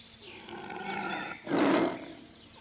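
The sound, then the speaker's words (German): A lion roars loudly, a rumbling growl that builds into one powerful, raspy bellow before trailing off, with no other sounds around it. “Zum Beispiel Leo, den Löwen.”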